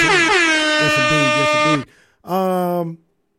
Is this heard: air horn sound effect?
yes